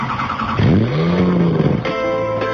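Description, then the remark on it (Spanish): A car engine turns over and roars into a loud rev that rises and falls in pitch, then settles into a steady, throaty idle. “En Autolíder arrancamos.”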